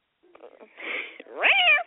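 A domestic cat named Sheldon vocalizes: a soft, breathy chirrup followed by a louder, drawn-out meow that rises and falls in pitch, with no one talking.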